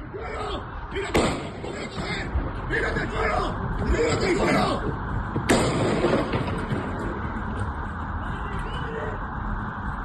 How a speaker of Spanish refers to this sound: Escuchábamos ahí lo de tírate al suelo mientras se escuchaban esos disparos de fondo.